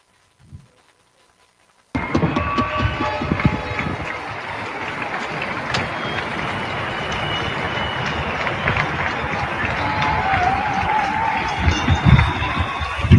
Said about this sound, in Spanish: La verdad es que es impresionante cómo se escuchan esos aplausos,